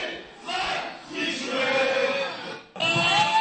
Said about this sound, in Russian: Основная часть болельщиков, истосковавшиеся по футболу, радовалась открытию нового чемпионата. Перед началом матча болельщики хозяев поют гимн «Богемки» в роли дирижера у кромки поля, все тот же забавный сумчатый.